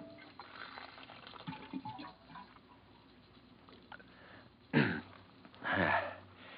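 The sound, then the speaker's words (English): In an office, water gurgles out of a water cooler as a drink is poured, in two short, fairly loud bursts near the end, after several seconds of faint background rustling. No one speaks. “Hang up your hat and go over to the water cooler for a drink.”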